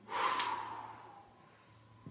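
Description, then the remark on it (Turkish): A single deep, deliberate breath drawn in, a broad airy rush that swells quickly and fades out over about a second, followed by quiet. “Ne kadar mühim nefes almak?”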